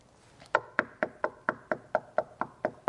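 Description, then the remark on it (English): A steady series of about eleven sharp knocks, evenly spaced and fairly quick, each one crisp with a short woody ring, with no voices present. “And you just keep hearing that knocking. What is that? What is that sound?”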